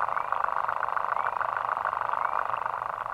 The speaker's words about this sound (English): But this one tiny water bug, called, in fact, the lesser water boatman, makes a sound almost as loud as a whale by vibrating its penis underwater at a very fast rate.